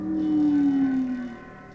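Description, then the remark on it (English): A low bass slide whistle, used in a Goldsmith score, sounds a single sustained tone that slowly dips downward in pitch for over a second, then fades out over a soft background hum. “Oh, and that weird low dipping sound is a bass slide whistle, by the way.”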